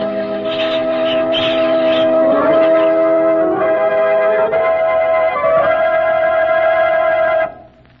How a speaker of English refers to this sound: You should have heard the Hamelin people ringing the bells till they rocked the people.